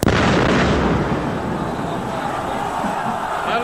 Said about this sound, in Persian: صدایی که شنیدین مربوط به نماز جمعه 24 اسفند سال 63 بود که در اثر انفجار 14 نفر کشته شدن